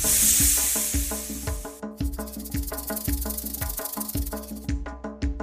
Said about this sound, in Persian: من یه مارم بچه ها، صدای من هیس و هیس، رنگ و رنگم و زیبا، بعضی از ما نیش داریم، خطرناکیم بچه ها.